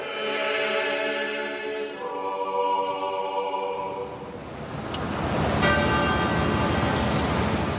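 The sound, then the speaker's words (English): Church bells toll as former finance minister Flaherty's casket is carried out of the church, long ringing overtones that linger and overlap, then a rougher wash of outdoor noise rises partway through as the bells keep sounding. “The bells tolled as Flaherty's casket was carried out of the church, with a police honor guard standing at attention and saluting the former finance minister.”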